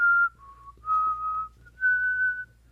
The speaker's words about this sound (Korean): 네, 제가 휘파람을 효과음으로 넣어봤어요. 직접. 네, 직접 넣어봤어요.